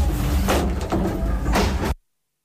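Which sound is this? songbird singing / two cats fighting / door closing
door closing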